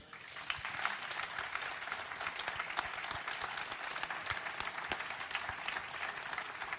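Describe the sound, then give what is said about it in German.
Sustained audience applause sent with get-well wishes to Ralf Minge, a dense wash of many hands clapping at a steady, even level with scattered sharper claps standing out, continuing throughout without any talking. “Ralf, du hörst den Beifall.”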